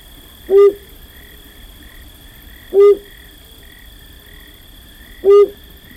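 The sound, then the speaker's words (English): A male flammulated owl, a tiny owl sitting high in a ponderosa pine in a western mountain pine forest, gives three short, low, mellow hoots spaced evenly a couple of seconds apart, clear, over a faint steady insect drone on a quiet late-summer night. “Just as late summer darkness fully envelops a mountain pine forest in the west, a male flammulated owl begins to hoot.”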